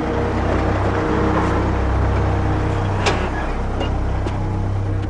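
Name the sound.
truck engine running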